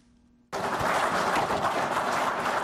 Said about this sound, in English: Those are Zimbabwean officials, including Wildlife and Environment Minister Opamuchinguri, clapping after they received anti-poaching equipment